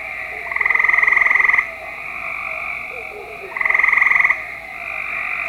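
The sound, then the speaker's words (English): Two loud, fast pulsing trills from a Cope's gray tree frog, each lasting about a second and a half, separated by a pause, with a steady hum of other calling frogs in the background. “is again that trill, but you're only going to hear the copes. You're just going to hear that one.”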